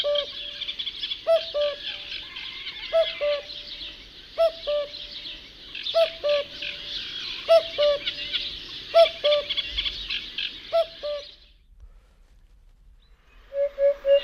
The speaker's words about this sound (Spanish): Vamos a escucharlo, porque tenemos ese archivo aquí. Vamos a ver. Este es el cuco.